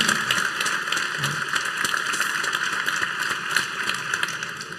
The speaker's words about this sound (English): So thanks so much. Let's have a big round of applause for our speakers.